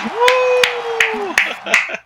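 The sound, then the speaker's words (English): Five sharp hand claps land at a slow, steady rhythm while a voice holds a long, level tone underneath, then trails off into a few murmured sounds. “So I would love for the audience, which is me, to give you a huge round of applause for being on this podcast.”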